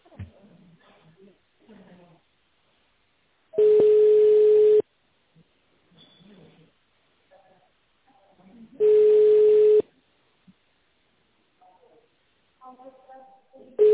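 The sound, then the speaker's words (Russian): Two loud, steady telephone ringing tones on a call to the company Lang, each lasting about a second and a few seconds apart, with faint snatches of voices in the gaps between them. “Наберите в тональном режиме добавочный номер сотрудника или дождитесь ответа секретаря.”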